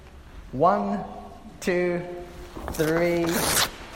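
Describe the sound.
An audience tears perforated paper in unison on a count of three, tearing off a perforated section in the middle of the sheet: a loud ripping burst that swells and fades over a couple of seconds, with sustained voices calling out beneath and between the tears.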